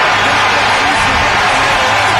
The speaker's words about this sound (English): You heard the crowd going crazy here at FedEx Field. They saw the score update on the Bears.